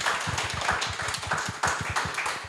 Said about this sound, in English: Small audience, but very intimate, and round of applause, thank you.